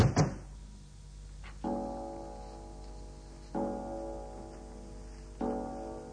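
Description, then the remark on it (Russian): A front door shuts with a single solid thud at the start, then three evenly spaced, resonant ringing tones follow, each fading slowly. No one speaks. “На всякий случай закрою входную дверь.”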